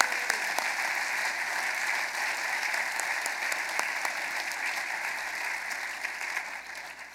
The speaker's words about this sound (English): Now let's give him a round of applause.